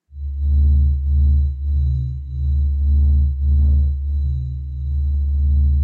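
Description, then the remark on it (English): A deep, resonant hum with strong low harmonics pulses in slow, uneven swells, like a droning tone rising and falling roughly every half second, heard alone with no voices; a recording played about 40,000 times faster than real time. “But it's basically like a guitar, like a humming, or like the acoustic waves inside the body of a guitar.”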